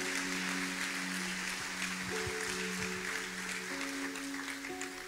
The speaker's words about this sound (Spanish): Toda mi alabanza, toda la gloria para ti, Señor, y este aplauso para tu presencia, por tu amor, por tu bendición, Señor.